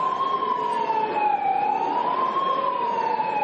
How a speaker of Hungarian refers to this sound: Alig, hogy elkezdődött azonban a voksolás, több LMP-s politikus megafonnal szirénázni kezdett az ülésteremben.